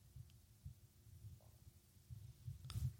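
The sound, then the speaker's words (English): Quiet stomach growling: low, irregular gurgling rumbles that come and go, swelling a little louder near the end, with no talking. “Did you just hear my stomach? My stomach's making growling noises.”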